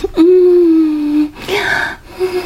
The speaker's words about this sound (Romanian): Nu se trezește. Plânge în somn. Visează.